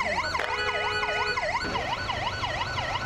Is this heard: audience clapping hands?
no